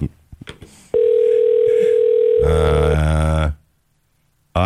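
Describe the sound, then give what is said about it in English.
A few quick clicks, then a steady, unbroken telephone tone, followed by one loud, buzzy ring on an outgoing call placed on a live show to a woman, cutting off abruptly into silence. “Let's see if she picks up.”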